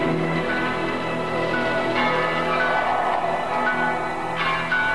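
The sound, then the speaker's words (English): Bells ring steadily and loudly, their overlapping tones blending into a dense, sustained clang with fresh strikes standing out now and then. There are no voices. “The bells were ringing in the dale.”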